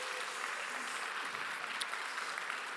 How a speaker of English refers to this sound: I am the proud youth pastor of the Turkey Bowl champions, which our girls are in here right now. You guys can clap for them if you want to.